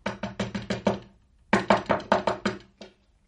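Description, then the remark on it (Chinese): Loud, urgent knocking on a door by Magdalena, in two rapid bursts of six or seven hard raps each, separated by a brief pause, sharp with no voices. “看，又有一个人猛烈地敲门，是马达内纳。”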